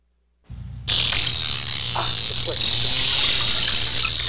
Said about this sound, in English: Here's a bottlenose buzzing.